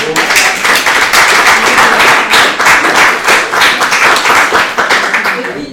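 A crowd claps steadily for several seconds, a dense, loud wash of overlapping handclaps with no breaks, bright and crackling throughout.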